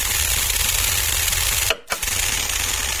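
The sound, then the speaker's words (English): A steady, loud hiss of fine water mist spraying from the nozzles of a Selectamark security system at offices outside London, set off by motion sensors at the door, with a low mechanical rumble beneath and a brief cutoff near the end before the spray resumes. “You get a shower. Yeah, I did. This is just a fine mist of water.”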